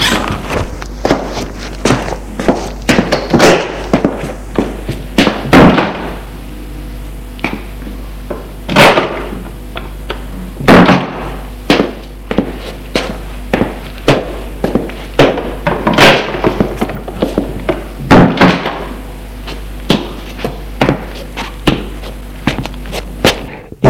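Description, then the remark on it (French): Sharp footsteps and clunking thumps sound over about twenty seconds as a person gets up to answer the door after the doorbell rings, ending with the door being opened. The knocks are irregular and crisp over a steady low hum, with no voices. “Il se lève pour aller ouvrir.”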